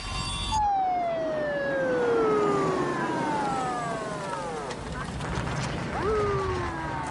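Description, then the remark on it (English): Police sirens on arriving police cars wail in long descending sweeps, one tone sliding down after another, then a fresh siren cuts in and falls again, loud over a rumbling road and engine bed as the cars drive up to a warehouse. “Cop cars drive up to the warehouse as the doors are slid open and everyone emerges.”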